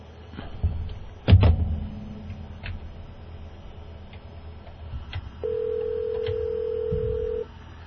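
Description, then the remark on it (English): A phone line picks up with a couple of handling clicks, followed by a steady, moderately loud ringback tone that holds for about two seconds as the call rings out unanswered. No one speaks. “We're ringing him now.”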